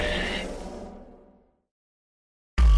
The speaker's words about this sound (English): Warning, signal interruption detected.